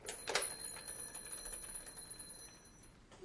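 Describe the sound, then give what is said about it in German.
A toy telephone bell, rung by pressing a button hard, rings with a bright, metallic jangle that starts sharply and lingers as a thin, high ringing tone, quiet. “Kann sein bei dem Knopf, dass der klingelt.”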